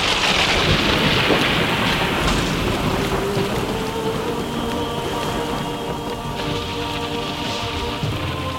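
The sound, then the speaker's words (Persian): Steady, heavy rainfall hisses throughout, with deep rolling thunder rumbling underneath. The storm stays loud and continuous for the whole stretch, and no voices are heard. “وسط آب یه مرتبه باران میره”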